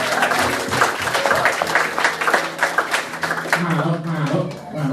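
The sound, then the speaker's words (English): A church audience at an Every Nation Brisbane service applauding steadily for several seconds, a dense, loud wash of many hands clapping, with voices calling out underneath toward the end. “Come around the applause for our King Jesus tonight.”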